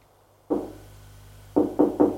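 Knocking on a door: a single dull thud, a pause of about a second, then three quick raps in a row. The knocks are solid and low-pitched, with no voices.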